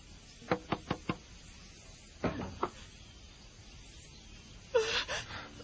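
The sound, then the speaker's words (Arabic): Four quick, sharp knocks on a wooden door, evenly spaced, followed after a pause by a couple more knocks and then a brief breathy sound, fairly loud with no speech. “افتح الباب أبي أنا أرجوك.”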